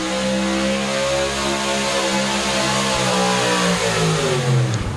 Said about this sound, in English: Once again, we'll apologize for the brakes there, but we just can't talk over the motors there and the truck and tractor pull.